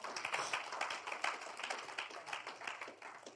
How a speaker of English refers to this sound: Clap for the Lord Jesus.